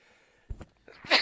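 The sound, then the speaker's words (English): A single sharp sneeze: a short inhaled buildup with a couple of catches, then a loud, hissy burst near the end, with no talking. “I got a sneeze coming again”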